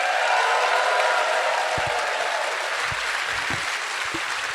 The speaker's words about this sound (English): Clap your hands for the pair of them.